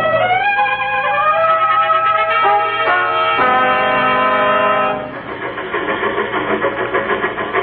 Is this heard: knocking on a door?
no